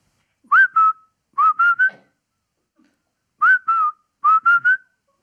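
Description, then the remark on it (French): A parrot named Coco whistles a short repetitive tune: a two-note phrase then a three-note phrase, repeated twice with a pause between, bright and clear with a slightly rising, wavering pitch. “Car sa mélopée, naguère entraînante, s'était faite un rien pénible, pour ne pas dire carrément chiante. Ça donnait ça.”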